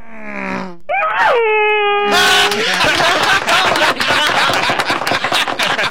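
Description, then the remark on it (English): Two people vocally imitate racing car engines, an Indy car passing a NASCAR: a lower droning hum overtaken by a higher, sustained whining tone, followed by several seconds of loud, crackling, clattering noise. “I would like to hear the sound of an Indy car passing a NASCAR.”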